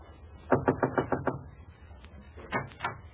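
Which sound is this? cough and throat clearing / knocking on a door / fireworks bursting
knocking on a door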